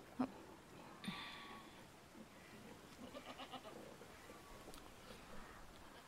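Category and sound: animal, goat bleating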